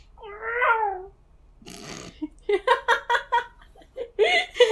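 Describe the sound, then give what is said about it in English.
A person imitates a cat with a single drawn-out, wavering meow. A short breathy burst follows, then a run of rhythmic laughter. “I can do a pretty good cat sound.”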